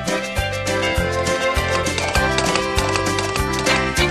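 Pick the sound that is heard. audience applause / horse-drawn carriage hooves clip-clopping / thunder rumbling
horse-drawn carriage hooves clip-clopping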